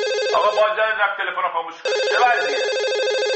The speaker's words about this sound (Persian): نه آقا، این تلفن خونمونه، زنگ میزنه. من سوم دبستان بودم. داره زنگ میزنه، بذار بردارم.